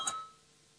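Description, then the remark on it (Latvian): A single short tone from a parliament voting bell, rung before a vote, strikes once, then its bright ringing overtones fade quickly into quiet background noise. The sound is fairly faint and stands alone, with no talking. “Lūdzu zvanu, balsosim par 13. Juridiskās komisijas priekšlikumu, lūdzu balsosim.”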